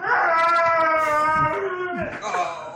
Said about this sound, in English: the dog not only plays dead, but acts as if he's howling in pain